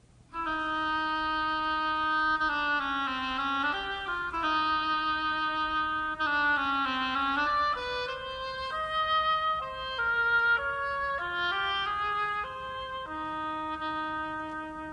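A solo oboe plays a nasal, reedy melody in a middle-high register, with sustained notes and small bending slides, continuous and moderately loud for about fifteen seconds, depicting a waddling duck.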